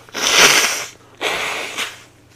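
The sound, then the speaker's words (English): Two loud nose blows, the first long and forceful and the second shorter, each a harsh, breathy honk of air pushed through the nostrils, with no talking. “You know, sometimes you just got to blow your nose in the middle of a podcast.”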